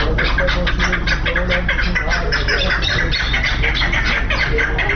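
A dense chorus of fighting partridges calls continuously at a caravanserai near the bird market of Sheberghan where partridge fights are held, many overlapping sharp, chattering notes packed together and fairly loud, over a steady low background rumble.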